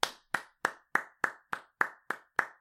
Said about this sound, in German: Das ist doch mal ein Applaus wert, oder? Ja, dein Applaus hat man aber nicht gehört, da war zu leise.